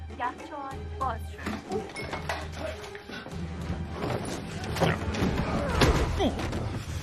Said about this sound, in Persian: یخچال باز شد.